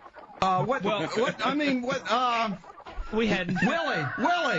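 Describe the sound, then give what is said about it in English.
A person does a loud chicken impression, a rapid run of warbling clucks and squawks with a brief pause before another burst of bawking. “We'd like to interview this chicken now.”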